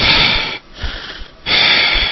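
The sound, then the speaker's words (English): Heavy, close-miked breathing: a long airy inhale, a brief quieter pause, then another loud rushing breath, harsh and hissy right against the microphone with no talking. “because I got so aggravated when I was hearing myself breathing into the microphone.”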